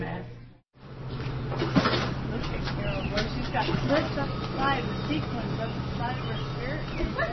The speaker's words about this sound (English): The seniors roll out of the lobby, and the staff lifts them onto a bus.